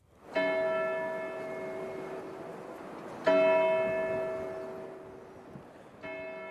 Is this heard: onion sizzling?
no